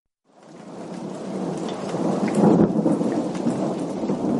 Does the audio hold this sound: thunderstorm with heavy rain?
yes